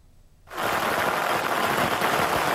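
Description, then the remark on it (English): After a brief quiet moment, a dense, loud barrage of firecrackers erupts, crackling rapidly and continuously in sustained sharp pops, as fishers hoist the season's first bluefin tuna at the auction site of Yilan's third fish market in Su'ao Township, early on a Wednesday morning. “Amid an explosion of firecrackers, fishers work together to hoist the first bluefin tuna of the season.”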